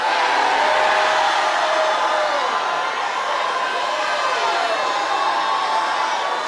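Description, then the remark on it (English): A church audience shouts praise to God in a loud, sustained roar, many voices cheering together, with rising and falling whoops cutting through the steady wash of noise. “You have to have shouting church sometime.”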